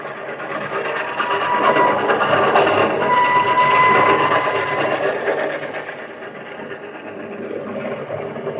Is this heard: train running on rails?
yes